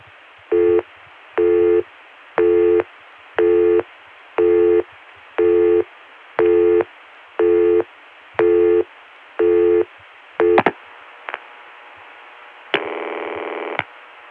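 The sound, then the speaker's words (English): A telephone PBX busy signal reached by sending a 7 into the PBX, which times out to a ring: about eleven evenly spaced tone pulses repeating steadily over a thin phone line, then a couple of clicks and a longer, harsher burst at the end. “it goes to a busy signal that sounds similar to one we heard in another PDX in the last program.”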